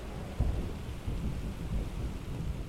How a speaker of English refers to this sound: I have woken to a summer thunderstorm, and its tinny patter on our skylight offered not just relief from days of heat, but also from the barrage of my tinnitus as I spent another day trying to write about it.